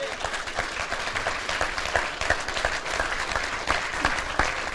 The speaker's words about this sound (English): He's worked hard. Give him a hand clap.